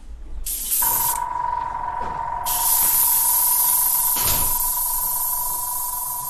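A spray gun hisses steadily for several seconds as it sprays nanocellulose onto a paper sheet from a music collection, a broad airy rush with a faint steady whine beneath it and a brief sharper burst near the end.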